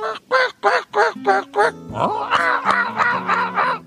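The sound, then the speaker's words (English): A man's voice imitates a honking, goose-like bird call: six rhythmic, nasal honks, then a longer warbling squawk with a lower held tone underneath, fairly loud. “I like to do all different types. Bird calls.”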